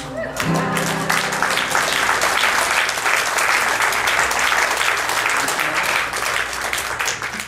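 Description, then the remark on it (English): A crowd applauds after a prayer, a dense wash of many hands clapping at a loud, even level for several seconds after a brief musical tone at the start. “It's normally fairly hard to get people to clap after a prayer.”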